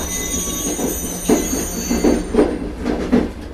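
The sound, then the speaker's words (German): The slow local train through the Triestingtal rumbles along with a steady low roar, high metallic wheel squeals whining above it and soft rhythmic clunks from the rails, with no talking. “Es rumpelt, es quietscht. Die Bummelbahn durchs Triestingtal lässt sich Zeit.”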